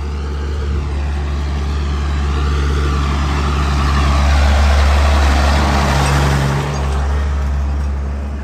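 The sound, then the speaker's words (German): Steady roar of traffic on an expressway, recorded while walking a pilgrimage route beside it, with cars rushing past in a continuous wash of engine and tire noise that swells toward the middle and eases off again. “So hört sich das an, wenn man an einer Schnellstraße pilgert.”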